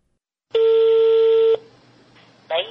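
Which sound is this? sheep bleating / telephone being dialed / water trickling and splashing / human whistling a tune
telephone being dialed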